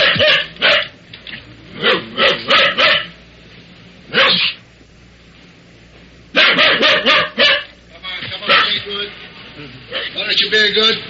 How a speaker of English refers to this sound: And I listened to a doorman talking to a barking dog locked in a car.